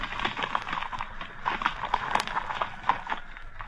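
Horses' hooves clip-clop steadily along a path leading to a clearing, in the snow-covered land of the Senones, a series of sharp, evenly paced knocks over a soft background hiss, with no voices.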